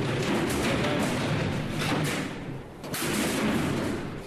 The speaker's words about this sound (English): So she's walking down and into the abattoir. The animal is in the shooting box and he's getting ready to shoot him.